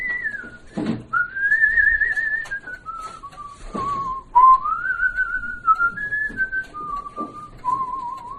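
A man whistles a slow, gliding melody, clear and close, with sustained tones rising and falling between short breaths, alone without any talking.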